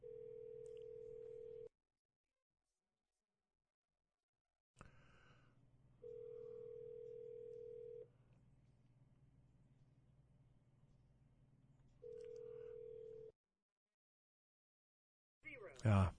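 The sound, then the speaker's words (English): A telephone ringback tone over the line: a steady electronic tone sounds three times in roughly two-second bursts with long pauses, over a low line hum, ending in a brief click. “Looks like I'm going to have to, wait a minute, it's ringing.”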